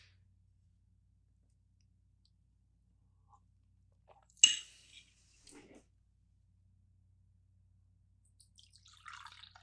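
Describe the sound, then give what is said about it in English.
Coffee is poured into a cup: a sharp clink, a few soft splashes and drips, then a short trickle of liquid near the end. No one speaks. “Give me a second to pour myself some more coffee.”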